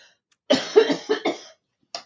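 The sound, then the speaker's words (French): A burst of several harsh coughs in quick succession lasting about a second, followed by a brief pause and one more short cough. “Je compatis parce que j'ai toussé pendant un mois et demi.”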